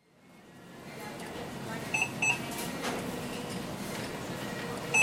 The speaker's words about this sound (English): That beeping isn't coming from a checkout line. It comes from Marty the robot, a 6-foot-tall gray pillar with googly eyes. Marty rolls around the store, scanning the floor for trash and spills.